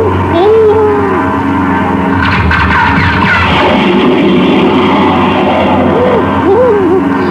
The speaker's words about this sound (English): Look back, up there to the left. Those planes, they're diving down on us. Yeah, two jet fighters, Russian-built MiGs. Ooh, we gotta do something. Try hanging onto your hat. The first one's making his pass now.